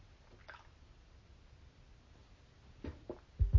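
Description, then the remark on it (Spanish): Quiet sips and small wet swallowing sounds from someone drinking a little water, with a few soft slurps spaced apart and a louder low thump of liquid or a glass at the end. “Estoy tomando un poquito de agua.”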